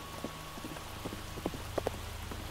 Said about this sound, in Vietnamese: Nếu như ở ngoài khách sạn thì họ không thể nghe thấy tiếng chuông, huống chi đang lúc gió táp mưa sa, sét đánh rền trời này chứ.